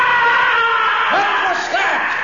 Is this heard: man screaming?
yes